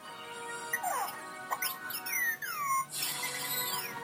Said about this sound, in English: Sometimes he really does just whistle beeps. I believe he's excited.